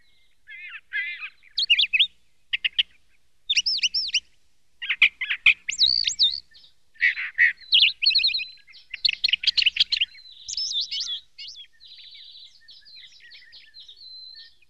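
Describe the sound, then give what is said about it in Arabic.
A sparrow named Azouz sings on a branch in quick bursts of high, bright chirps and warbling trills, pausing briefly between phrases, with no other sounds around it. “نعم، أفتح النافذة كل صباح لأنظر عليه وهو يغرد فوق الغصن، يقول لي كلاما كثيرا، وأسجل على الورق بعض ما يقول.”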